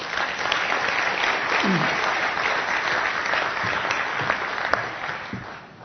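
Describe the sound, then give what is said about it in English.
An audience at an event applauds steadily for about six seconds to welcome a speaker, a dense, even wash of many hands clapping that stays loud throughout and eases slightly toward the end, with a few faint voices mixed in. “So please give Chris Cuff a very warm round of applause.”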